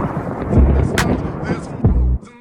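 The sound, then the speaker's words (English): A thunder sound effect: two loud, deep booming rumbles about a second apart, layered over a dense, crackling wash of noise, with a brief sharp hiss in between. “the New Year's Thunder Sound. The Thunder Sound.”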